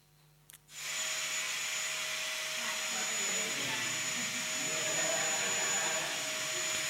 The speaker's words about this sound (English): Yeah, vacuum cleaner. It's got a very specific sound, hasn't it? Some of you might not know what it sounds like if you don't do the vacuuming at home.